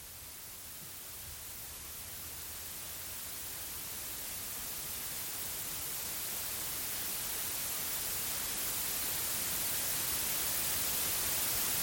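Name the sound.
white noise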